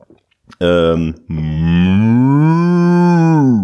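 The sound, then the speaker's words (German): A person imitates a cat's meow: a brief call, a short pause, then a long drawn-out meow that rises and slowly falls in pitch, loud with no talking. “Das war eine Katze, eine sehr gute Katze.”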